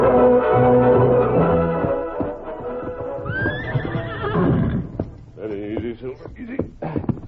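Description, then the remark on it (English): A horse whinnies loudly, its shrill neigh rising and falling, followed by a series of hooves clip-clopping and shuffling. “Take Brady's horse, that one over there.”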